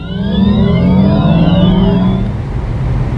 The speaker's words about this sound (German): Okay, hören wir uns nochmal das heranfahrende Auto an.